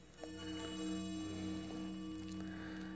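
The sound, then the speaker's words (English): A clock ticks softly with a few faint, unevenly spaced clicks over a steady low electrical hum. The room is quiet and no one is talking. “The clock is really going to town today.”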